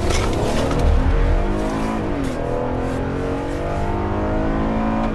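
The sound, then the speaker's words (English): A truck's engine rumbles loud on a road in Wisconsin as a patrolling inspector pulls it over, its pitch dipping and shifting as it slows down, with steady road noise throughout and no voices. “Inspectors patrolling Wisconsin's roads can also pull over trucks, and Johnson's doing that now.”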